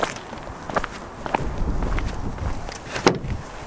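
A heavy truck cab door is shut by a person and closes with a solid, sharp thud near the end, preceded by a few lighter knocks and shuffling steps against a low rumbling background.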